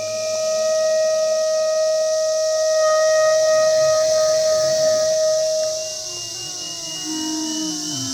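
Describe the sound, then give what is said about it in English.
A dense, steady high buzzing of millions of cicadas in a field runs throughout, under live clarinet and iPad music: a long held mid-pitched note that fades near six seconds, followed by sliding, wavering tones. No one speaks. “Okay, so this is a live performance live in the field of me and my son and millions of cicadas playing live.”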